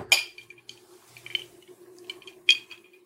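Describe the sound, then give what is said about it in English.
Glasses clink together up close in a toast: a few bright, ringing taps spread over a couple of seconds, with a low steady hum in the background and no talking. “Cheers, cheers, cheers.”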